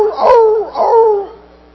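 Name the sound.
dog barking and howling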